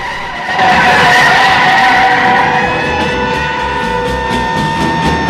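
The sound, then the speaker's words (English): Loud, sustained tire screeching as a car skids hard during a police pursuit on city streets, the high squeal wavering for several seconds with engine noise underneath, intense with no voices. “Both cars now head down the ramp and the pursuit continues back on the city streets.”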